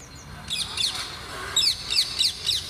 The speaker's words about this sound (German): Es sind Papageien, knallgrüne kleine Papageien, die, so sagt man mir, vor vielen Jahren von Menschen illegal in Käfigen eingeführt wurden.